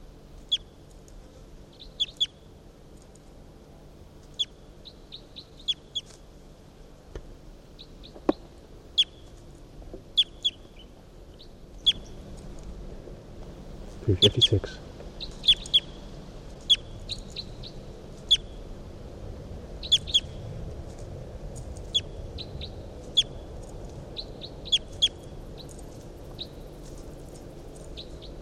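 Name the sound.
bird song recording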